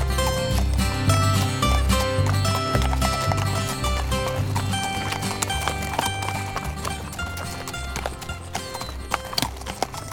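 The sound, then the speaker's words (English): Hooves of a horse being ridden clip-clop in a steady, fairly loud rhythm throughout, layered over a dense, tonal musical background with a deep low rumble. “While Orb was starting to take all this in, he was unaware that the owner of the horse he was riding was about to find a powerful ally.”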